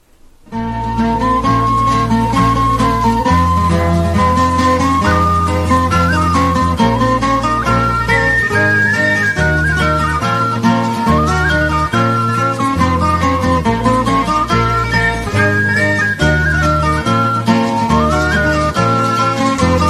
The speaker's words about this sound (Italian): Vi proponiamo di ascoltare questo canto di partigiani, meno conosciuto in Francia, della famosa Bella Ciao, Ecco fischia il vento,